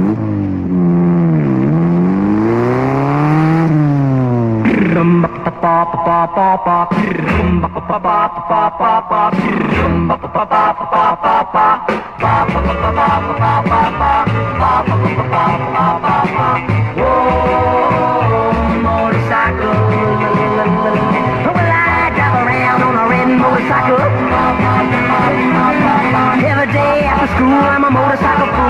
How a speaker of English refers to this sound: This is a record from 1961 by a guy who is very famous, but this was recorded before he was famous. We'll play it, and then we'll come back and tell you who it is.